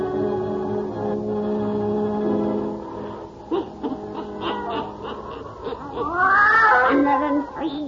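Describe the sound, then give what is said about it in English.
Satan, the witch's wise black cat in the radio show The Witch's Tale, lets out a loud, drawn-out, wavering meow that rises and falls, following a few seconds of low, sustained eerie tones with brief scattered sounds. “Weird, blood-chilling tales told by old Nancy, the witch of Salem, and Satan, her wise black cat.”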